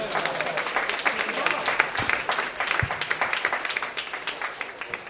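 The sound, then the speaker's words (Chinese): An audience applauds a group of singers steadily, a dense wash of many hands clapping at once, with individual sharper claps standing out and the clapping thinning slightly toward the end. “俾啲掌声佢哋好唔好啊？”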